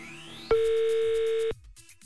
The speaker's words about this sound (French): Troisième sonnerie. Le voyant n'est toujours pas ouvert. Elle n'a pas répondu.